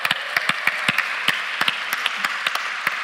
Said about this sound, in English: So why don't you give yourselves a big round of applause tonight?